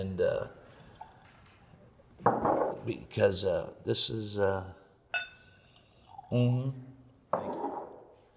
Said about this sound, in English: What, would you do me the honors of pouring us a few? Absolutely.